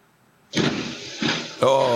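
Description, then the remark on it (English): Near-silence gives way to a sudden loud crunching crash as a car is hit in a collision and pushed forward, followed by a second rougher impact and then a sustained, loud, harsh tonal blare. “Everything's quiet until it hits.”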